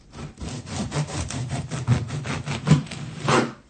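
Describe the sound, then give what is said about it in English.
A handsaw cuts through wood in steady back-and-forth strokes, each rasping pass bright and gritty, repeating about every half second with no voices. “He is cutting wood. Well done, cutting wood.”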